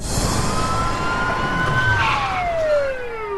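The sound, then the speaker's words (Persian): Several ambulance sirens wail at once, their pitches sliding up and down and overlapping, loud and steady over a constant roar of traffic, with no one speaking. “من از وقتی که اسکوبی فکر میکرد کچلی گرفته این همه آمبولانس ندیده بودم.”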